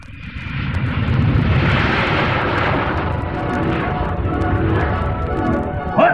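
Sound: airplane flying overhead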